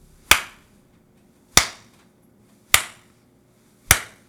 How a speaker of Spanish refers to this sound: Entonces, el humanoide levanta una mano, luego la otra, y se pone a dar torpes palmas.